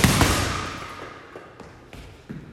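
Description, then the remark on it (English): A punching bag takes a quick combination of strikes, a jab, backhand, lead uppercut and backhand: one heavy, booming thud followed by several lighter, dull smacks in an uneven rhythm, with no voices. “Jab, backhand, lead uppercut, backhand.”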